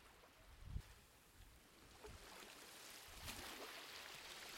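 Soft, steady rushing of ocean waves on a sandy beach, with gentle surges swelling every second or so, like small waves washing up on a shore. It is fairly quiet and continuous, and no one speaks.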